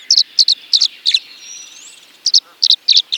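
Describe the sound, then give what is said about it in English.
A tree swallow sings a run of short, bright chirping notes in quick repeated pairs and triplets, high-pitched and fairly loud, with a brief pause midway and a soft thin whistle underneath. “Ornithologist David Allen Sibley describes their song as a repeated series of clear, sweet whistled phrases.”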